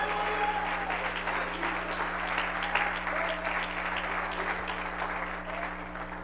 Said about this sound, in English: Come on, somebody, clap your hand. Let's take time out for a shout. Praise God.